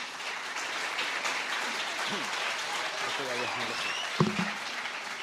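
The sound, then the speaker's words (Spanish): Sustained applause from a large crowd for the mayor of Laredo, Miguel González, at the Batalla de Flores de Laredo 2024 event, a steady dense wash of clapping filling the whole stretch, with a few faint voices and brief cheers breaking through near the end. “Un aplauso para el alcalde.”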